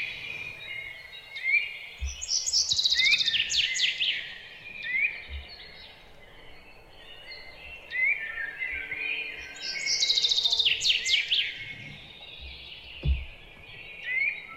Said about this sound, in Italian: è rilassantissimo, io lo trovo veramente magico, soprattutto appunto se sei proprio nel bosco, oppure se vi capita di passeggiare anche in città, vi capita di fermarvi improvvisamente e di sentire gli uccellini, soprattutto in questa stagione.